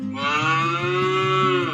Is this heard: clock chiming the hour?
no